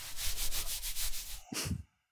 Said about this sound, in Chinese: 真乖，摸摸头。